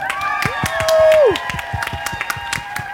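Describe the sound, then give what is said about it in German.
A live audience on the Augustusplatz in Leipzig claps and cheers, dense irregular hand claps running throughout with voices shouting, and one sustained whoop rising above the crowd early on. “Und das war unser Publikum.”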